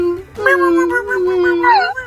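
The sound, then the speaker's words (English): A dog whimpers in a long, wavering, high-pitched whine that rises and dips over about two seconds, fairly loud, with no other sounds around it. “He whimpers.”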